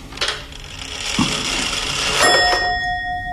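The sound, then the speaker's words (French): An old Swiss pendulum clock's works whir and click with a ratcheting rattle, then a single bright chime strikes and rings on, its clear metallic tone hanging and slowly fading. No one speaks. “C'est suisse, c'est la pendule suisse, elle est vieille comme tout.”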